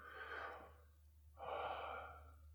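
Two slow, airy breaths in a meditation breathing practice, exhale longer than inhale, without holding the breath: a shorter one followed after a brief pause by a longer, steady exhale, soft and unhurried with no talking.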